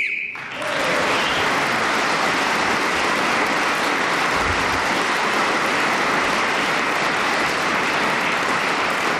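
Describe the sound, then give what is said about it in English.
A brief, shrill whistle blast sounds at the very start to end the round, immediately swallowed by loud, sustained applause that continues steadily to the end. “Tony Hawkes is again speaking as the whistle went”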